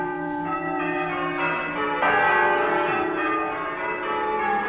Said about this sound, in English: Let the bells keep time. Little Gaudi, Silver Sabaoth, Strong John and Jericho, Glad Jubilee, Sweet Dimity, Old Batty Thomas, and Great Taylor Paul. Let us hear your voices.